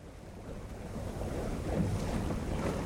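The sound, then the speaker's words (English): A boat moves steadily across open water at Port Fourchon near the Gulf, with a continuous low engine-and-water rumble and gusty wind buffeting the microphone throughout, no voices. “On the boat in Port Fourchon, we can see the empty land where the refrigeration units might go.”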